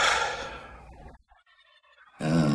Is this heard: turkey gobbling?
yes